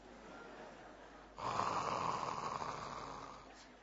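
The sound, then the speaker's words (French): After a brief quiet moment, one long, raspy snore from a sleeping man rumbles fairly loud, holding for about two seconds before fading. No one speaks. “Alors, qu'est-ce qui nous faisait comprendre qu'il dormait? C'est les ronflements.”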